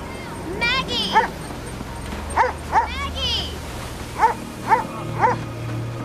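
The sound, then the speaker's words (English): A dog barks loudly about six times in short clusters, sharp, with a few higher whiny yelps early on, over a steady rushing background noise, on a beach. “Oh, I know this dog.”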